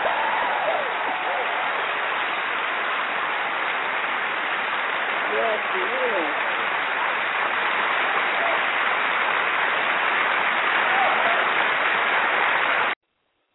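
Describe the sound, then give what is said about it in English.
A crowd claps in sustained applause, a dense, steady wash of many hands that stays loud and even for about thirteen seconds before cutting off abruptly, applauding a woman after she performs a piece. “Let me clap it up for you, my sister, first of all.”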